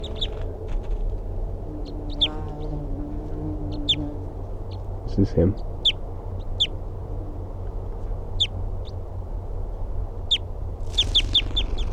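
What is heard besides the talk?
wild bird calling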